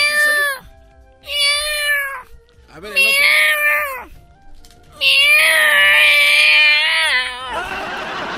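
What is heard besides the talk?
cats meowing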